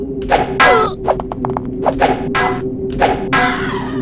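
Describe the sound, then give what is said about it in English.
A string of dull, thudding strikes with a lead pipe weapon in a video game, a pipe with 20 uses, lands at an irregular pace, some with sharp crunchy tails, over a steady low electronic hum and game background tones. “Now I'm using the pipe. The pipe has 20 uses.”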